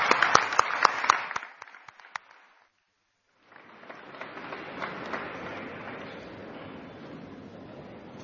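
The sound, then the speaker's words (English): Audience applause welcoming the International Sarva Dharma Choir, from several Baltic countries, at a Sai organization gathering: sharp, dense clapping that fades out, a brief silence, then a second softer wash of steady clapping that continues to the end. “Let's all welcome the International Sarva Dharma Choir with a round of applause.”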